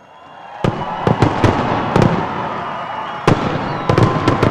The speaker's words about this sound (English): Big, expensive fireworks shows like this one erupted in color over the carved heads of Mount Rushmore every July for about a decade.